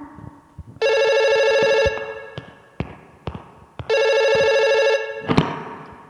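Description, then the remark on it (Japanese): A telephone rings twice in loud, steady electronic bursts of about a second each, separated by a pause, with a few soft knocks and thumps in between. “そう、お電話だ。”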